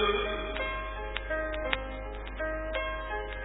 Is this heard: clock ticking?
yes